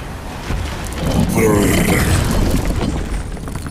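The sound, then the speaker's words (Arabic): A heavy door grinds and creaks shut, its low rumbling boom swelling and holding for a few seconds before easing off. “اللعنة، لقد أغلق الباب.”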